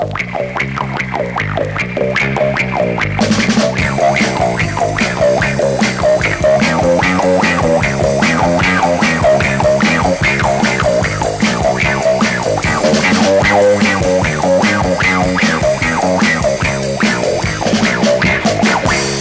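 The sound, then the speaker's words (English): A funky bass guitar line filtered through a wah-wah pedal, its tone sweeping up and down in a steady groove over a full, loud backing with bright cymbals and no voices. “And listen to the funky bass guitar sounds you get with the wah-wah pedal.”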